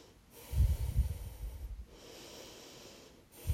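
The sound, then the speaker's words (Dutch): Deep breathing during a guided breathing exercise: a strong, rough inhale with low rumbling, then a long, softer exhale of airy hiss, with another breath beginning at the end. No one speaks. “Ga door met ademen.”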